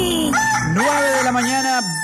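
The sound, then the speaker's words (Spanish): A rooster crows once, loud, a full drawn-out cock-a-doodle-doo lasting about two seconds that rises, holds, and drops off at the end, with no talking over it. “es el gallo. El gallo, el gallo. El gallo.”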